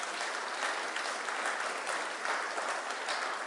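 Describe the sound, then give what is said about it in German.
A steady burst of church audience applause for a short skit by the youth, many hands clapping in a dense, even patter that holds at a constant level throughout without any voices. “Kleinen Applaus verdient.”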